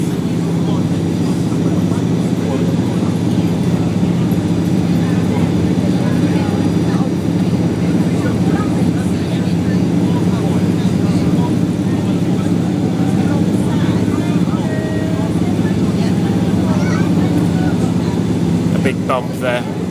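A small plane's engine drones steadily and loudly during takeoff as the plane rises off the ground, heard from inside the cabin. It is a constant low hum with a throbbing buzz that holds an even level throughout, with faint murmurs beneath it.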